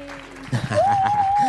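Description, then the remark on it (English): An applause sound effect added on a show to welcome a guest: a steady low tone gives way to a sudden burst of loud clapping, and a long rising whistle rings out over the applause until the end. “Can we get some applause?”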